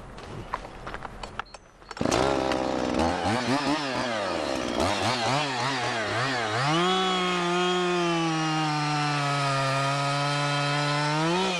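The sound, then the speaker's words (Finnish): A power saw clatters into life, revs up and down in wavering bursts, then settles into a loud, steady drone as it bites through wood, continuous. “Tuossa on saha valmiina ja puuta on, niin pistetäänkö kone käyntiin?”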